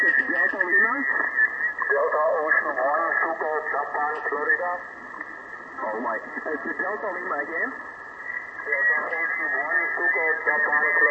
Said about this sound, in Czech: Jo, už se to rozjíždí, no, už je tam začínají volat. Teď je tam volají 3 stanice, jo, on ten operátor nereaguje a asi tam má nějaké rušení